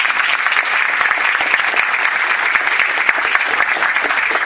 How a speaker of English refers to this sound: So can we please have a warm round of applause for Dr. Carol Tilley?